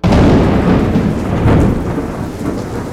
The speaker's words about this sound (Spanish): Una noche, una terrible tormenta azotó la construcción de Cantuña. Y pese a todo el esfuerzo por mantener la estructura firme, un rayo derrumbó todo el esfuerzo realizado.